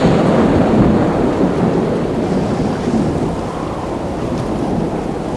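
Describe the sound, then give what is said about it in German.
A heavy thunderstorm with a gale sweeps over a ship at sea amid metre-high waves, roaring continuously with deep rumbling thunder mixed with dense rain and gusting wind, loud, slowly easing a little in intensity. “Nun waren sie schon 4 Tage auf See, als sich plötzlich das Wetter verschlechterte und ein schweres Unwetter mit einem Sturm tief über sie hinwegfegte.”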